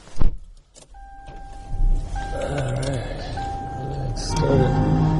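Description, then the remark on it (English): A car door thumps shut, a steady electronic chime tone sounds, then the car radio turns on inside the cabin, playing muffled voices or music at moderate volume under engine hum, in a snow-cleared parking lot on a windy, snowy day. “Whoa, the radio turned on.”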